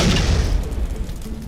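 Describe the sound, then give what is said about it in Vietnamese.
A single deep, loud boom that rumbles heavily in the low end and slowly fades out, with no voices over it, portraying the terrible explosion with which the heavens vanish on the last day, as described in the Bible. “Nó được miêu tả trong Kinh Thánh là ngày mà các tầng trời sẽ biến mất sau một tiếng nổ kinh hoàng.”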